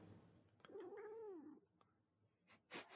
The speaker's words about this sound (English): My cat. Apparently your cat does. My cat's like, good. Now leave. I have work to do.